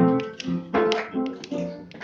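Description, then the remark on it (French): Scattered handclaps from a few people in an audience, sharp and irregular, over a steady background of tonal murmur. No one speaks. “n'applaudissez pas, ou alors pas trop vite, pas trop vite.”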